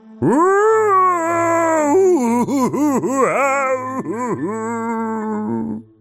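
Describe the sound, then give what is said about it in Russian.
An old man's drawn-out, wavering howl rises, then breaks into a series of looping, warbling swoops before trailing off, sustained and fairly loud, echoing through corridors and halls, with no speech. “Эхо разнесло его вой по всем коридорам и залам Моррисвилл-холла, так что поневоле мурашки забегали по коже.”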